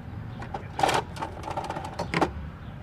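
An electric scooter's retractable charging cord retracts with a steady mechanical whir lasting a few seconds, punctuated by scraping rattles and clicks as the cable feeds back into the scooter above the front wheel. No one speaks.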